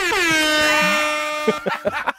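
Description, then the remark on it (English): An electric car horn gives one long, loud, steady honk with a slight dip in pitch at the start, lasting about a second and a half before a few short, choppy sounds follow. “I wanted an electric car horn the last break, and I didn't hear it.”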